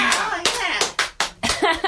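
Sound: people clapping hands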